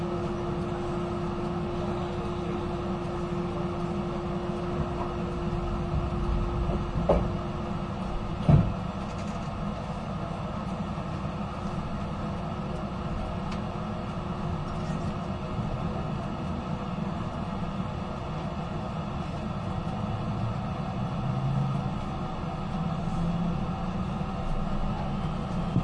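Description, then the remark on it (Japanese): Steady low rumble and hum from inside the moving limited express Super Azusa No. 19 bound for Matsumoto, Japan, next stop the terminal Matsumoto, a constant drone with a faint tonal whine and a couple of brief knocks partway through; no voices. “この列車は特急スーパーあずさ19号松本行きです。”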